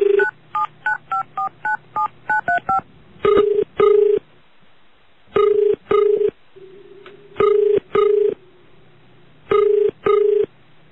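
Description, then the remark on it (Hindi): A rapid run of about ten tonal keypad beeps as a phone call is placed to minister Vijay Mishra, followed by a steady ringback tone pulsing in pairs, repeating several times with pauses between, all clear and without any talking. “विजय मिश्रा उनका नाम है, सर को फोन लगा लिया मैंने।”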